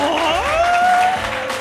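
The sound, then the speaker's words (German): A small live audience at the SWR pop-up studio in Mainz city centre cheers and claps, a rising whoop of voices riding over a dense, steady patter of applause that stays loud throughout the short burst. “Wir haben auch Publikum. Macht mal ein Laut.”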